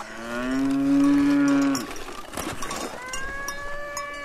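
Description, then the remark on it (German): A cow on a mountain hiking trail lets out a long, loud moo, followed by a few clanking cowbell sounds and a second, softer lowing call. No one speaks. “Vorbei an Kühen, deren Glocken bimmeln, verlassen wir jetzt gleich unseren leichten Wanderweg”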